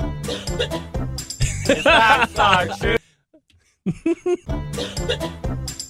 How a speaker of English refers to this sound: …'s cough is so bad that even when she does it, this is from yesterday's show, this happens.